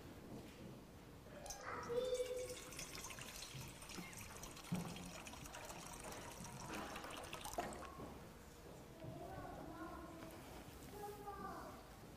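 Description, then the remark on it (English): Water pours steadily into a baptismal font during a church baptism prayer for about six seconds, a splashing stream, before it stops and a person begins speaking quietly. “Send your Holy Spirit upon us and upon this water,”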